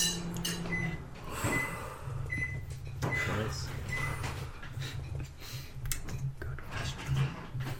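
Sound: microwave oven running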